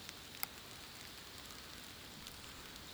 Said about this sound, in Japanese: 雨の森、リーコの大好きな音だから、もう少しだけ楽しんでから。